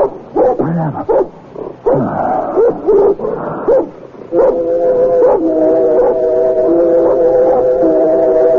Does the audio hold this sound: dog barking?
yes